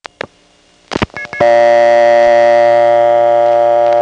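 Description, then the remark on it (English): Several sharp clicks and clunks of a prepay coin phone handset and mechanism, with no coin in and the ground start line idle, are followed by a loud, steady, buzzy dial tone that holds without a break to the end. “Let me take a minute and explain why the dial tone ends up sounding like that from a prepay coin phone.”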